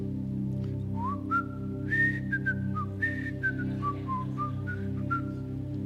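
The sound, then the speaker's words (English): A person whistles the beginning of a TV show theme tune alone, a short, jaunty melody with gliding notes rising and falling over a few seconds, above a steady low background hum. “let me just whistle the beginning. Maybe you can recognize it.”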